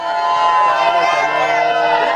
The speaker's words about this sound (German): Aber die jungen Pilger auf dem Berg lassen sich davon nicht schrecken und jubeln jedes Mal laut auf, wenn ein Stück Statue mehr zum Vorschein kommt.